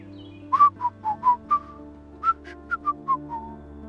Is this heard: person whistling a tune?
yes